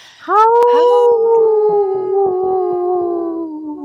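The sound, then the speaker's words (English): A person on the radio show Native Roots Radio Presents I'm Awake imitates a wolf with one long, loud howl that rises sharply at the start, then holds a steady tone and slowly sinks in pitch for several seconds. “You know how we love to howl.”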